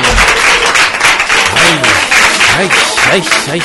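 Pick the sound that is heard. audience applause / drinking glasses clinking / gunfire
audience applause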